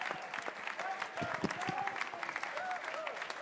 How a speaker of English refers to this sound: Let's give a round of applause to all these gentlemen who we look forward to seeing play in the Bronx. And a round of applause for yourselves for making this a wonderful evening.